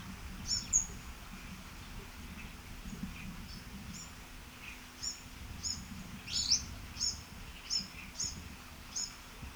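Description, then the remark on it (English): Orange-crowned warbler calls during an interspecific territorial interaction: a string of about ten short, high, sharp chips repeating at irregular intervals over a low, steady background rumble, with no voices. “Actually, it was an interspecific interaction with an orange-crowned warbler.”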